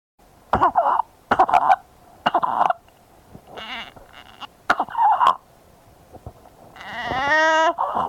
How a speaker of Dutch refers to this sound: De eerste is een obstructie van de bovenste luchtwegen. En dat noemen we ook wel een stridor. Je krijgt dan een inspiratoire, hoog geluid zoals dit.